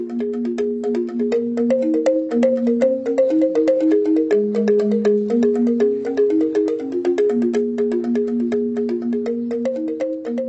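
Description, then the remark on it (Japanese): Gamelan ensemble music from a gamelan used to accompany dance: bright, bell-like metallophones ring out interlocking melodic patterns with sharp struck onsets, playing steadily and fairly loud throughout, with no voices. “この地域にゴングビアルが存在することで、このガムランをダンスの伴奏として使用するさまざまな携帯の新しいダンスの出現が促進されました。”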